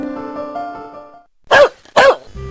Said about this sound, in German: Wildes Gebell mit Schwanzgewackel hat einen dicken Schädel. Ich spreche von unserem Rauhardackel.